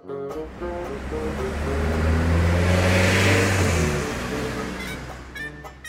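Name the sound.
car engine revving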